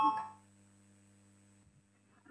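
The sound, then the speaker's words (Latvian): A short electronic chime, a parliamentary voting bell calling a vote on Defence Minister Pabriks's proposal, rings out at the start, then fades into a steady low hum with faint background noise and a soft stir near the end. “Lūdzu, zvanu balsosim par 21.”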